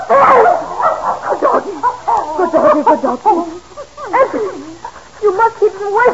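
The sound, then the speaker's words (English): A dog that has started digging barks and yips excitedly in a rapid, unbroken string of high, loud yelps that keep going for several seconds with no pauses and no people talking. “that blasted doggy's gone and started digging under Master's...”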